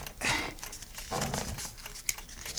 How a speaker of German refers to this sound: Aber was hat das alles mit dieser Streichholzschachtel zu tun? Und was machst du da eigentlich mit dem Papiermesser